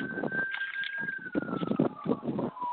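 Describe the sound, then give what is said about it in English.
A steady emergency siren wails in the background, its tone slowly drifting down, heard faintly through a phone on speaker over low muffled rumble and chatter. “Whoever's got their phone on speaker, we can hear the sirens in the back.”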